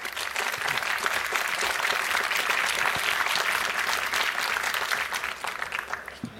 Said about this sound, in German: Applaus für